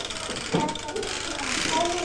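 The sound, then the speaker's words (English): A toy caterpillar's wind-up mechanism, just started, whirs and clicks steadily during a game of skittles, while children's voices chatter over it throughout. “Caterpillar. Is the caterpillar going to knock the Skittles over? I've just started it.”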